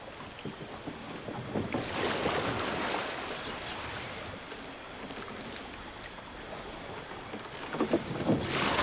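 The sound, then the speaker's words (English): A small boat moves across water, with steady splashing and lapping against the hull, wind rushing over the microphone, and a few louder sloshes near the end. “do try and stay in the boat, darling.”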